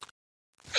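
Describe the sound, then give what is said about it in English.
A single sneeze: after a brief noise and a moment of quiet, a sharp, breathy burst erupts loudly at the very end. “bless Sorry, you again.”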